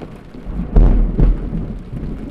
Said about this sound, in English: It is pouring rain, and the oil truck that was going to haul our oil calls us up and says, no way are we going to be able to get our truck into that muddy field to get your oil.